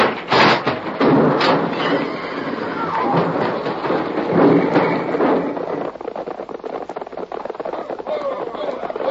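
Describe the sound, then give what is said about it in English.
A stagecoach whose brake has failed crashes in a long, loud burst of clattering wood, heavy thuds and rumbling that rolls on for several seconds before settling into a rougher, scraping clatter. “We're going to crash.”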